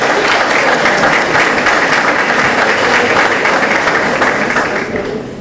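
Steady applause from a large audience at a tribute ceremony as honourees are invited forward, dense crackling claps sustained throughout at a loud, even level, easing slightly at the very end.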